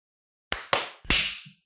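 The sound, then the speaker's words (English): Three sharp, loud hand claps in quick succession, made by several people at once. The last one sounds slightly smeared, as if not everyone hit it together, and there is no talking. “All right, let's clap on 15.”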